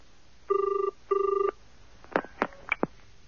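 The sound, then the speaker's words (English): A telephone ringing tone heard down the line on a call to the Islay Hotel: two short, buzzy double-burst rings, followed by a few sharp clicks and knocks as if the receiver is picked up. No one speaks. “Look, let me take care of the bill while you go and phone Mendel.”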